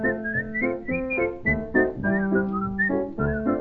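human whistling a melody

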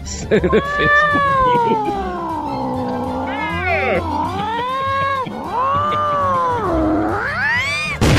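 cat meowing and yowling

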